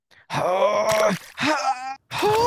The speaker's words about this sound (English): Okay, but I gotta let out my yoga screams, and the acoustics in the studio are very conducive to the guttural wails of the yoga shits. I mean screams.